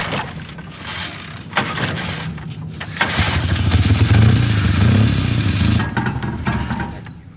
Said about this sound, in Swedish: Nej, men motorn lever. Behövs bara ett nytt tändstift.